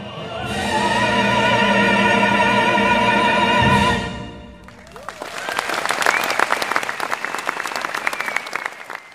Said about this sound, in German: Am Ende gibt es tosenden Applaus.